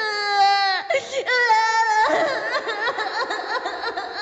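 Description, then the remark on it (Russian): A boy wails and screams at full volume while writhing on a balcony and desperately kicking his legs: two long, piercing, sustained cries with a short catch between them, then a wavering, sobbing scream that keeps going. “Мальчик вопил, извиваясь по балкону и отчаянно болтая ногами.”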